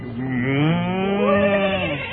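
A single long cow moo, loud, a low drawn-out call that rises slightly in pitch and holds for about two seconds with no other sounds around it.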